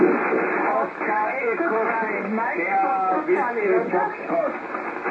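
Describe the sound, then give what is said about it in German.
Several amateur radio stations answering a call in an emergency radio net transmit at once, garbled voices piling on top of each other through a narrow, band-limited channel, steady and fairly loud for the whole stretch. “Ja, bitte nicht alle auf einmal, nur die Station mit Foxtrot zum Schluss, bitte.”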